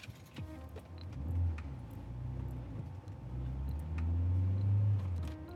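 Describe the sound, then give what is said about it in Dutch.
A car engine turns over and settles into a low running rumble, rising as the car pulls away onto the road with a passenger in the back seat, with small clicks and a faint jingle of keys near the start. “Ik start de auto en beluister even naar de radio terwijl ik de weg opdraai.”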